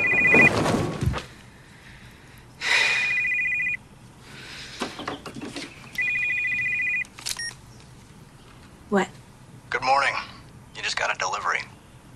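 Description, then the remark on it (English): A telephone rings in three evenly spaced, fairly loud bursts, each about a second long, followed by a few brief rustling and movement sounds. “Flinging back the bedclothes, she sits bolt upright when the phone rings.”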